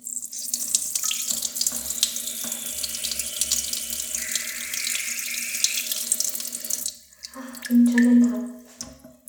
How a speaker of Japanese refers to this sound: おしっこしたいので今トイレに行きました。はい、よいしょ。じゃあどうしようかな。今日は普通に座ったままオナニーじゃない、おしっこしていきます。あ、もうすぐ出そうです。